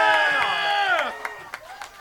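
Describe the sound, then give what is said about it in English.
An audience cheers for Stog's third birthday with loud, sustained whoops that slide down in pitch and fade, followed by a few scattered sharp claps. “Give it up for Stog!”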